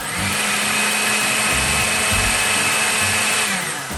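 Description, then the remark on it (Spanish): A blender runs steadily for about four seconds, a loud, constant motor whir with a high whine and a faint low churning inside. It is blending a strawberry mousse mixture with dissolved gelatin added, for a few seconds to combine it completely. No one speaks. “Agregamos la gelatina disuelta a la mezcla de frutillas y volvemos a licuar por unos segundos para integrar todo completamente.”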